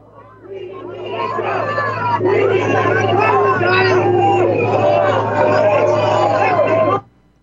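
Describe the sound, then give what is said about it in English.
A loud, steady crowd roar of many overlapping voices calling out, chanting and cheering together as Donald Trump signs autographs, including a cap, with a low hum underneath, holding for about six seconds before cutting off abruptly. “Trump signing autographs here with a crowd cheering, signing a cap.”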